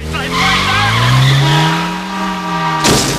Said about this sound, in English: Two cars crash behind them.